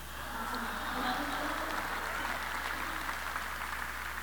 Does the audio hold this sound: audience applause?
yes